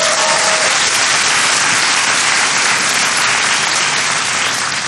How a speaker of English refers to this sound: Give, too, a big round of applause for